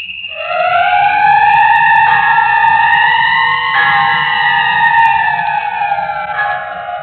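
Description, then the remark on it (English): A loud, steady whistle, Phyllis's signal in the radio drama The City of the Dead, blows for about seven seconds, its chord-like tones bending slightly in pitch, with a low rumble underneath and no voices. “Don't you hear the whistle?”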